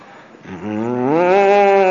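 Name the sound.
voice imitating cows mooing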